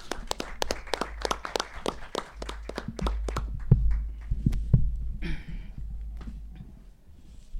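An audience applauds a speaker at an event about a forced disappearance, a dense patter of claps for about three seconds that thins into scattered claps and fades over a low steady rumble. No one speaks.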